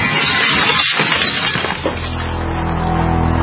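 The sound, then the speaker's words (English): A window is smashed in a smash-and-grab home break-in: a loud crash of breaking glass bursts out, with shards splintering and clattering for nearly two seconds, then fades into a steady, low droning tone that holds to the end. “In the U.S., one in every 50 homes will have a break-in this year. Burglars call it smash and grab.”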